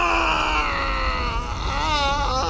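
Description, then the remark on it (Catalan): A loud, sustained voiced roar of rage, performed by a single voice imitating a furious cry, wavering in pitch and holding strong for a couple of seconds with no speech around it. “El crit de ràbia que va fer el dimoni en desvetllar-se va fer trontollar totes les parets de la casa.”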